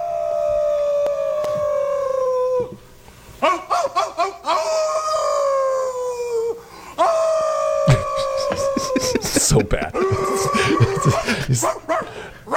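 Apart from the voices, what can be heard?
dog howling and barking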